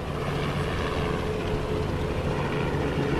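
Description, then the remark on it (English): News helicopters buzz overhead in a steady, continuous engine drone, fairly loud and unbroken for the whole stretch, with no voices, above the crash site in Birmingham where an Airbus A300 lay in pieces near the airport. “News helicopters buzzed overhead while police set up roadblocks not far from where the Airbus A300 lay in pieces.”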